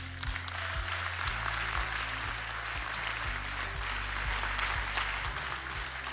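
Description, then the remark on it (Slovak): Steady crowd applause welcoming guest artists fills the whole stretch, a dense wash of many hands clapping at an even level with no voices over it. “Tak privítajte ich potleskom.”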